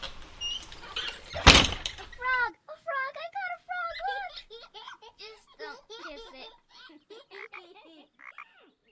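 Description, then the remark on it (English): A door thuds shut with one loud bang after a moment of rustling, then a run of bright, high-pitched children's giggles and squeals fills the rest. “Papa and I are going to record, so y'all go ahead and shut the door.”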